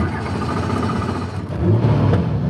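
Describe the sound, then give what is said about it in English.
A helicopter's engine drones and whirs steadily as it prepares to take off near San Antonio to survey the surrounding oil fields for methane leaks, the roar swelling louder partway through with a low rumble underneath. “We're about to take off in a helicopter and go survey the oil fields that surround here for methane leaks.”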